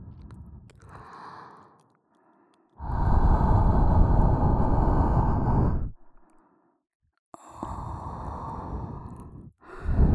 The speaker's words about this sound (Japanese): いっぱい罪を懺悔して、お疲れの僕ちゃんがぐっすり眠れるように、湿度たっぷりの熱い吐息の子守歌をプレゼントでちゅ。